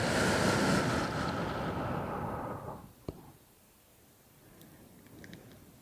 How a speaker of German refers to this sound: Und du bestimmst in dem Fall das Tempo, wie die Wellen an den Strand heranrollen und in welchem Tempo sie zurückgezogen werden.